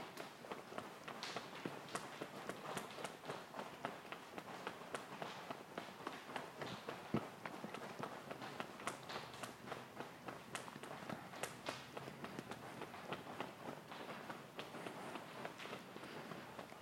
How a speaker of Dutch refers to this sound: Dus dan kun je stevig kloppen met de voet en dan wissel je been, zelfs met andere been.